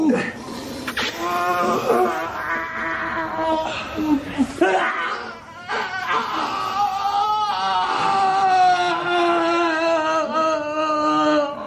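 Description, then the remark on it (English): A dying man lets out a loud, drawn-out agonized cry, wavering and straining, breaking off briefly midway before resuming in long anguished wails. “I fear me that this cry will raise the town.”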